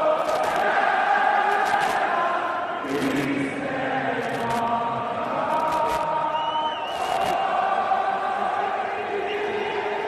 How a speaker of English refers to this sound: A rendition of O Canada, meanwhile, received this rousing response.